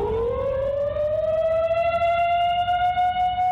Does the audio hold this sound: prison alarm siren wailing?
yes